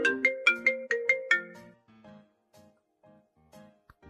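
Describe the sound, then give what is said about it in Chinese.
A mobile phone ringtone for an incoming call from an older brother plays a quick, bright melodic phrase of about six chiming notes, then continues more softly with a fainter repeating tune, heard alone with no talking. “哎， 是哥哥的电话吗？啊，没事，你接吧。”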